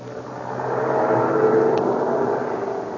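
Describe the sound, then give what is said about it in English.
A heavy army truck engine rumbles steadily as the truck slowly backs up to a schooner tied up at the dock in the town of Zamboanga in Mindanao, the drone swelling a little in the middle, with no voices. “An army truck is backing up to the schooner Spindrift, tied up at the dock at the town of Zamboanga in Mindanao.”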